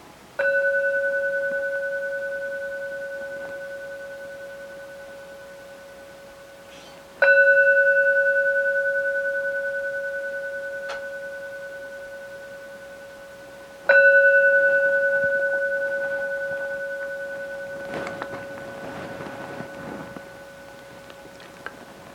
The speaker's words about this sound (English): So I'm going to begin by striking the bell 3 times, and that'll bring us to our meditation state of mind.